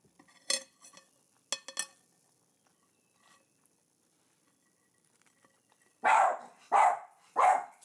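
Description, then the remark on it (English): A dog begging at the table lets out three loud, evenly spaced barks near the end, preceded by a few sharp clinks and clatters like dishes or cutlery. Nobody speaks. “He's putting his paws on my knee. Don't beg from the table.”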